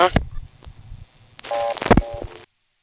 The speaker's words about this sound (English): And speaking of organic sounds, they're using the power ring instead of the usual audible ringtone as the sound effect to put on while